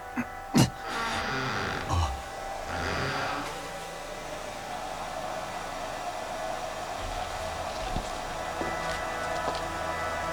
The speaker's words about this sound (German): Der Föhn ist an, aber... Da ist keiner drin.